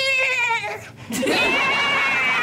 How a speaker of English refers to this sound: You on the beach, you hear the dolphins.